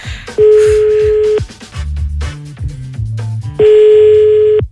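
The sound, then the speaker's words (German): Two long, loud steady ringback tones bracket a short run of low electronic dialing beeps as a phone call is placed from a private telephone and rings through the line, with no voices. “Laura und ich rufen jede Woche vogelwild Leute aus unserem privaten Telefon an”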